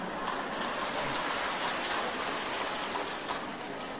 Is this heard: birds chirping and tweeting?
no